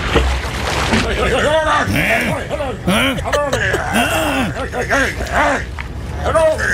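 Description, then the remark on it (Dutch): A seal named Hoover imitates human speech with gruff, hoarse, drawn-out syllables that rise and fall in pitch, a steady run of voice-like phrases over a faint noisy background. “En van al deze diersoorten zijn eigenlijk zeehonden degene wiens stembanden en wiens spraakkanaal het meeste op dat van ons lijkt.”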